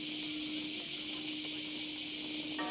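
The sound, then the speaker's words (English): A dense, continuous high-pitched buzzing of cicadas roaring in the trees overhead during the atomic bomb memorial ceremony in Hiroshima, Japan, steady and unbroken throughout, with a faint low hum underneath and no voices. “Cicadas roared in the trees overhead.”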